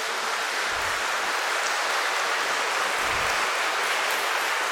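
Loud, sustained applause from a church audience for a testimony, a dense steady crackle of many hands clapping without pause for several seconds, with no speech over it.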